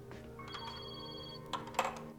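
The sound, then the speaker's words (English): A mobile phone rings in a laboratory with a steady electronic ringtone at moderate volume before being answered, followed near the end by a couple of short, sharp clattering bursts. “… answers his phone.”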